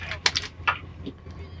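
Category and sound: ambience, inside a train carriage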